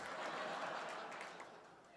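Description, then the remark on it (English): An audience at a live music performance claps steadily throughout, a dense wash of many hands holding an even level before easing off slightly toward the end. “You may not be clapping later.”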